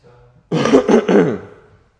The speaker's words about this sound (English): Everybody else saw me coughing, it was only you.